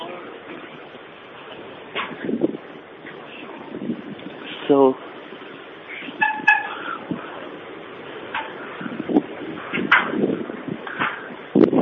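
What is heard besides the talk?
strong wind blowing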